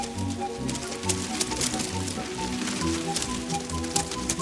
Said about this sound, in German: Und wie aus dem Nichts prasseln Unmengen von Tannenzapfen vom Himmel.